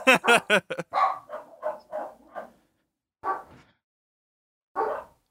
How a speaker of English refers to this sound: There's a lot of like dogs barking around here, so I'm sort of keeping myself on mute.